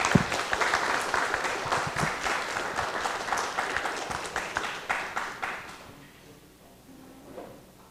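An audience applauds to welcome the abbot to give the closing summary of a Buddhist lecture, with dense, steady clapping for about five and a half seconds, then the applause dies away into quiet with a brief faint stir near the end.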